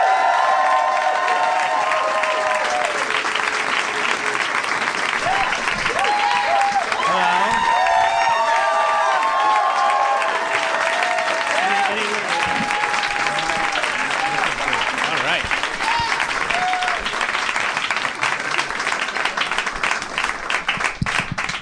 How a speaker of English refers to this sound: There was some extended applause there. I think your legacy is palpable in this room.